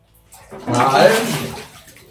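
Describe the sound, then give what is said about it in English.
Water sloshes and splashes in a bathtub, a single burst swelling up for about a second, moderately loud, then fading away. “I'm just enjoying the wet splashy water of a bathroom.”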